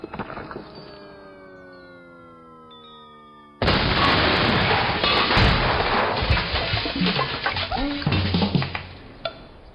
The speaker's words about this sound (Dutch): De ontploffing bleef ook bovengronds niet onopgemerkt. Er kwam een plotseling einde aan de nieuwe boortoren en het zoeken van de professor.